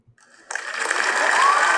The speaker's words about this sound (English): But I would just – can you edit in an applause here? Edit in or just put it in now? Just put it in?